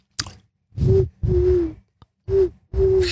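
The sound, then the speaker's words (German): Someone whistles with a rolled tongue: four breathy, hoot-like low notes with short pauses between them, each pitch dipping slightly, and no talking. “Man kann dann mit der Zunge pfeifen.”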